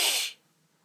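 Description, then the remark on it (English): A quick, sharp inhaling breath taken during a breathing exercise, a short airy hiss lasting about a third of a second before fading into near silence. No one speaks. “And then we take another sip.”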